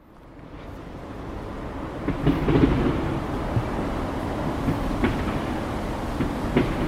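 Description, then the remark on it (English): A heavy, continuous roar of traffic rumbling across Lisbon's 25th of April Bridge over the Tagus River, heard from underneath as it passes overhead above the rooftops, swelling in the first seconds and then holding steady, with recurring rhythmic clunks and rattles cutting through the low drone. “It goes right across the rooftops, and you realise what a racket the traffic passing overhead makes”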